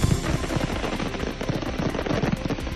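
A loud, dense barrage of fireworks bursting in rapid succession during the Nit del Foc of the Fallas in Valencia, the sharp bangs and crackles tumbling over one another in an almost machine-gun rhythm, with no voices.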